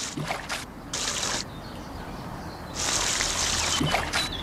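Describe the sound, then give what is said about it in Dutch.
Water is sniffed up into the nose three times with the right hand during wudu ablution, in several hissing, splashy bursts, moderately loud, with a longer drawn-in rush near the end and no talking. “Drie keer water in de neus doen met de rechterhand.”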